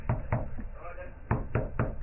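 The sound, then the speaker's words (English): Muffled knocking on a front door down the hall from an office at about 11:25 at night: two quick raps, a pause, then three more in a steady rhythm, fairly loud but dulled by distance. “And at the front door, which is down the hall from my office, I hear...”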